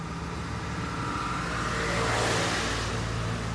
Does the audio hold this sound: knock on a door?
no